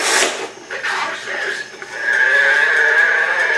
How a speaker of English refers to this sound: That's a sick cow. Whoa. That's like the dying cow says. Oh, my God.